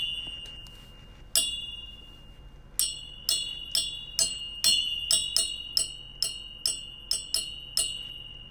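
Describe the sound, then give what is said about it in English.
The end of a pair of metal tweezers taps the bottom of a lamp, producing bright ringing clinks with a sustained metallic tone. About fifteen clear strikes fall in a fairly steady rhythm after a couple of faint early taps. “Especially the bottom of the lamp.”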